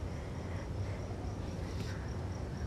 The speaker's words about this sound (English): But the bees have been with me all day, so I wanted to figure out how to share them with you.